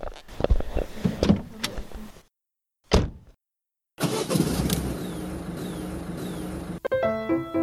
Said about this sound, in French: Alors, on est près de la voiture, on va faire un peu de route.